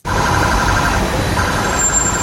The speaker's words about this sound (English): Yeah, the fearsome sound of a police robot on patrol in Singapore, or not quite. It's making a traffic stop there outside the city-state airport.